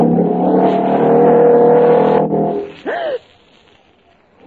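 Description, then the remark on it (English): A motorcycle engine revs loudly and steadily for about two seconds as a performer rides it along a wire, cuts off, then gives a short whining surge before dropping away to near silence. “Watch him ride that motorcycle on nothing but a wire.”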